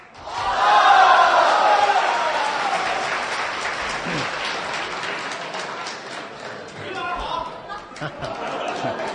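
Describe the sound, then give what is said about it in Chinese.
A crowd applauds loudly for the xiangsheng (crosstalk) performance Jiuling by He Yunwei and Yu Qian, with dense, steady clapping that swells early and then gradually thins, mixed with some cheering and murmuring voices. “谢谢朋友们的掌声鼓励。”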